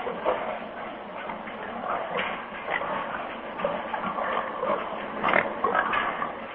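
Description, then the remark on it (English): Many pigs grunt and snort continuously inside a galvanized iron building on a swine farm, a dense, overlapping chorus with occasional louder squeals standing out near the end. “The pigs occupy one of the galvanized iron buildings near the edge of the fields.”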